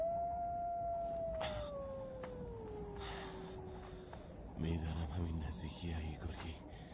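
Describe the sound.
A single long wolf howl slides slowly downward in pitch for about four seconds, clear, then fades as a person begins calling to the wolf, named Gorgi, offering it food in the snow, over faint background noise.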